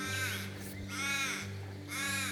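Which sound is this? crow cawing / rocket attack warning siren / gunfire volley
crow cawing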